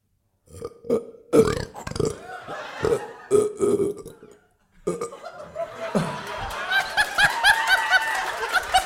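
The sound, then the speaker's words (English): A man who has just drunk a whole drink lets out a string of loud burps in quick succession, roughly seven in a row, followed by a burst of laughter and chuckling from a group. “That was two burps. No, that was about seven burps, was it not?”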